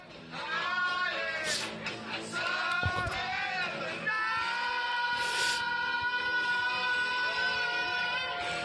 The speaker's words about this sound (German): Hört ihr die Leute pfeifen und. Das ist ja Wahnsinn, die haben sich gefreut.